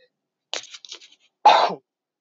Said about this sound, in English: Sorry about that. I tried to get the mic away from me as much as possible when I coughed.